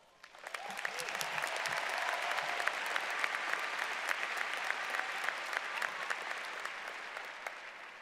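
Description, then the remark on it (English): A large audience of friends and family at an NAU graduation ceremony applauds steadily for several seconds, the dense clapping swelling quickly and holding at a full, even level. “Today is your accomplishment too, and I think that deserves a round of applause.”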